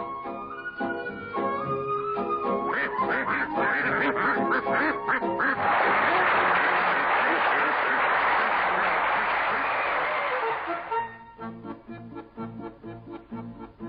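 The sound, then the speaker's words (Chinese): Several ducks quack in loud, repeated bursts during an acrobatics show act in which ducks are produced from an empty wooden box, then a swell of applause briefly covers them before the quacking returns at the end. “欢欢的本领是把宰好的鸭子送进炉子，而笑笑的绝技却是从空木盒里变出鸭子。”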